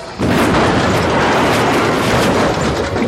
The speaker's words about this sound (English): The first one came in too high. Wedge saw it shudder, then saw its port wing disintegrate from impact with the balcony. The blade spun, then crashed down onto the street.